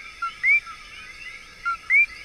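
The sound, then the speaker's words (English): A male coqui frog, a tiny frog no bigger than a thumbnail, calls twice in a forest. Each call is a short flat note followed by a loud, upward-sweeping chirp, repeated at a steady pace over a constant high buzzing chorus of night creatures. Its call has been recorded at over 100 decibels. “Although it's no bigger than a thumbnail, the male's ear-splitting call has been recorded at over 100 decibels.”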